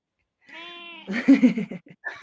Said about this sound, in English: Who's that? That's my wee cat. She's saying hello